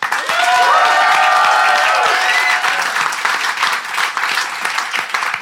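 A live audience in Phoenix bursts into loud, sustained applause to vote on which side is in the right, dense clapping filling the room, with a few whoops and cheers rising early on before the clapping carries on steadily.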